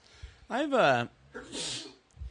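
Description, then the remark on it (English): A single loud sneeze: a rising voiced intake that swells, then a sharp breathy burst of noise, with no talking around it. “Bless you.”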